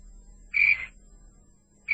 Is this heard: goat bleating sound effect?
no